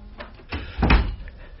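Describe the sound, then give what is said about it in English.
A door swings shut, ending in a single solid thud with a low, dull knock, preceded by a couple of softer clicks and rustles of the handle and frame. “Close the door.”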